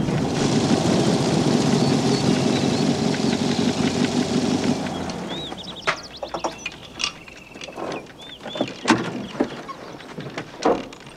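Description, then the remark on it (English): A car rumbles steadily along a rough dirt track in green grassy hills, dust clouding up behind it, with a gritty, crunching texture for about five seconds, then the engine noise drops away, leaving sparse clicks and faint high chirps. “The car is now passing along a track in the green grassy hills, dust clouding up behind it.”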